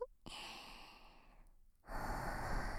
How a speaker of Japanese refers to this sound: お姉さんの温かい吐息で柔らかくプニプニになってくださいね。